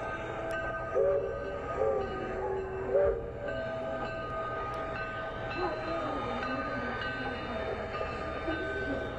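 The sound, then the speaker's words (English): Very small train wagons carrying people evacuated from concentration camps roll steadily along the rails with a continuous low rumble and sustained metallic ringing tones, holding at a moderate, even loudness for the whole stretch with a few brief swells. “As the war is coming to the end, people were evacuated out of the concentration camps, like Ellie, and put into very small wagons to be transported by trains.”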